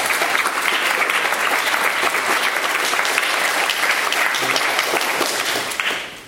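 An audience claps steadily, a dense, even wash of many hands at a loud, sustained level that tapers off in the last second.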